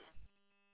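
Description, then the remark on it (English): A radio roger beep from a Baofeng UV5R mini handheld radio: a short crackle of static followed by a steady, buzzy electronic tone that holds briefly and cuts off, with no one talking. “There's that Roger beep at the end, though.”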